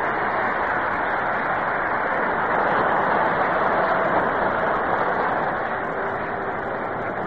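stadium crowd applause

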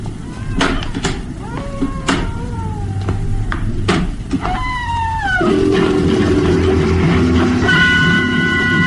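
door being closed

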